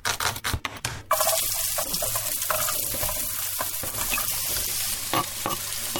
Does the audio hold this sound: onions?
yes